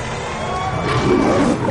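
A loud, sustained roar like a big cat's, rumbling and growing slightly stronger over nearly two seconds, with no voices over it.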